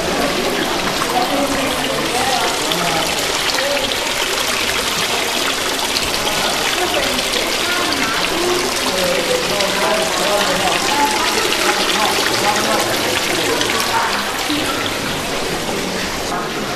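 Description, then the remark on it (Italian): A small fountain on the landing of a castle splashes water in a steady, continuous wash, fairly loud throughout, with faint voices murmuring in the background. “Allora, avanzate un attimo così ci facciamo cullare anche dal rumore dell'acqua.”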